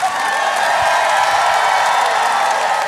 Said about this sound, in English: Let's go. Applaud louder.